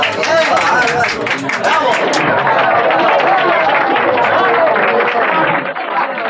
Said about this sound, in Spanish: Los aplausos y las aclamaciones se prolongan durante momentos.